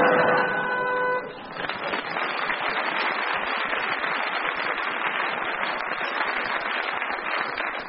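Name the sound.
quiz show buzzer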